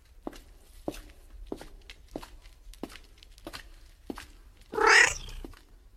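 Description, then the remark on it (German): A black tomcat lets out a single loud, drawn-out meow near the end, after a steady series of soft, evenly spaced footsteps, inside a church during a snowstorm. No one speaks. “Der Kater hat tiefgrüne Augen und trotz des eisigen Winters seidenweiches Fell.”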